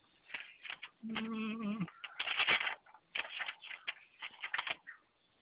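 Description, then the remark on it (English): Papers rustle and shuffle in quick, uneven bursts of crinkling and flapping as someone searches through receipts for a clean sheet of paper to write on, with a short hummed or voiced sound partway through. “Ah, clean piece of paper.”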